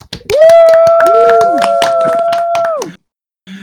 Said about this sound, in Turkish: Şimdi o alkışı bir daha yapalım. Çok sönük kaldı çünkü.